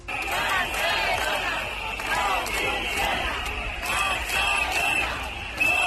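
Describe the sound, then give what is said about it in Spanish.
A large crowd of protesters in Barcelona, residents and shopkeepers fed up with insecurity in the city, chants the slogan "Barcelona no funciona" in unison, voices rising and falling in steady rhythmic phrases, while sharp metallic clangs of pots banged in a cacerolada ring out continuously throughout. “Se entiende perfectamente lo que dicen en esa cacerolada.”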